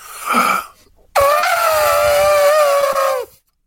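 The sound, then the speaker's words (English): A person imitates an elephant's trumpet: a short breathy burst, then a loud, sustained, wavering tonal blast lasting about two seconds. “It's a good elephant.”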